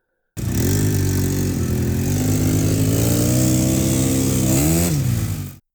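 Fifteen Yamaha and Kawasaki dirt bikes are started up, their engines roaring steadily and loudly with a rough sputtering rumble that lifts into a brief rev near the end before cutting off. No one speaks.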